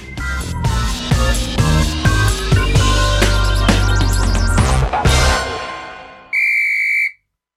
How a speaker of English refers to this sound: I like the whistle at the end. That's very nice.